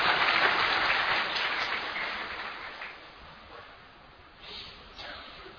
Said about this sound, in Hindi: आज भले जोर से ताली बजाओ कोई आप।